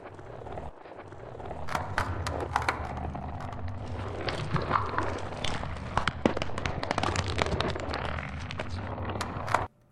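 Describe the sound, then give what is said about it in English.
Layered sound effects of dense crackling pops and sharp bursts over a steady, low machine hum produced on a synthesizer to pull the sounds together, droning throughout, then everything cuts off abruptly near the end. “It still didn't sound quite right though, and those sounds I think needed some glue, so I actually just got a synthesizer and produced a low kind of machine hum, which just pulled those sounds together.”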